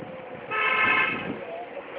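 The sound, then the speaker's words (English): A single sustained car horn blast from another driver sounds in traffic, loud and steady for about a second before fading into road noise. “What's this guy honking at?”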